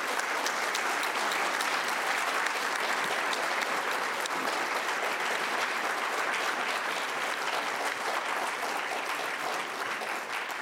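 Steady, dense audience applause lasting about ten seconds, a continuous wash of many hands clapping at an even loudness with no voices standing out.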